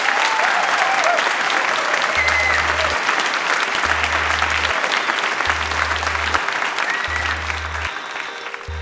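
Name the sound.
audience applause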